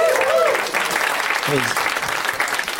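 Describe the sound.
An audience applauds in a steady, dense wash of clapping that holds throughout, with a few brief voices calling out over it.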